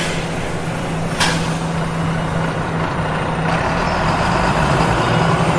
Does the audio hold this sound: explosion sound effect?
no